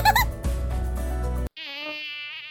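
A high, whining mosquito buzz drones steadily, its pitch wavering slightly, following a burst of dense, loud music that cuts off abruptly.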